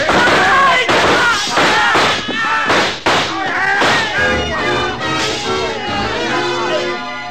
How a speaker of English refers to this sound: The shooting went on for about 5 seconds, and when the glass started to come down behind us, we covered up.